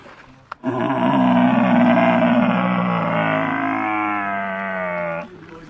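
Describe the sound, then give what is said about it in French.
A person imitates a stag's bellow with one long, loud, throaty call that holds steady for over four seconds, its pitch easing slightly downward before it stops abruptly. “le cerf, c'est-à-dire quand il brame, il commence et après il allonge la tête.”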